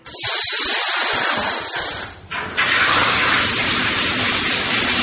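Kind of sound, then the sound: household object, shower water spraying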